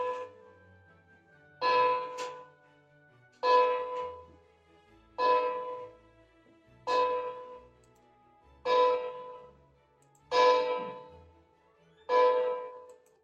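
A bell tolls seven times in a slow, steady rhythm, rung by a soldier. Each bright metallic strike rings out and fades before the next. No voices are heard.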